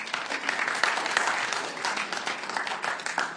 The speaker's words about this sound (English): All right, thank you. How about we give him a round of applause?